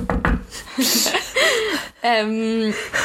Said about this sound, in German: Ja, ein Klopf auf Holz hier, ne? Nein, du musst 3-mal klopfen.